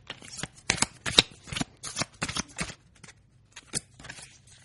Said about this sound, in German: Ich hebe einen Teil der Spielkarten vom linken Stoß ab und lege die Karten, die sich in seiner Hand befinden, auf den rechten Stoß. Ich werde jetzt die Karten mischen.